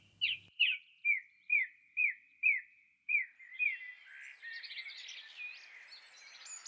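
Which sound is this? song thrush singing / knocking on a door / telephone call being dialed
song thrush singing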